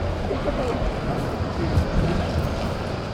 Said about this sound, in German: Ja, wir starten diese neue Serie mit Geräuschen vom Bahnhof.